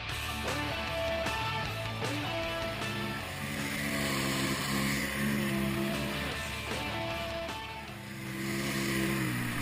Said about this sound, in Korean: 제트스키는 물 위에서 달리는 모터사이클, 그러니까 물 위를 모터의 힘으로 달리는데 오토바이 타는 것과 비슷합니다. 조작 방법도 아주 쉬워서 초보자도 간단한 설명만 들으면 곧바로 타고 나갈 수가 있습니다.